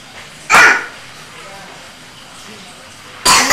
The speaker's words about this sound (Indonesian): Batuk deh, tantenya juga batuk. Ya, pada batuk.